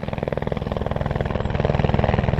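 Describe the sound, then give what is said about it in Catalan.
A helicopter carrying rural agents to collect snow samples above 2,000 metres in the Pyrenees, its rotor blades chopping in a rapid, steady rhythm over a loud engine whine that builds slightly in volume; no voices are heard. “I justament un d'aquests dies, aquesta setmana, tu has acompanyat els agents rurals en helicòpter a recollir mostres de neu a més de 2.000 metres, a mig del Pirineu.”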